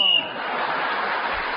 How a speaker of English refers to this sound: So, … was again speaking as the whistle went, and therefore has increased his lead at the end of that round.